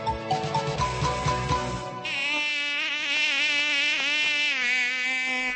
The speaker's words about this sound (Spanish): Ves malditas moscas. Espera, tengo aquí un matamoscas, plachachka. Ya verás cómo acabo con ella en un momento. A mí no hay mosca, monja, que se me resista.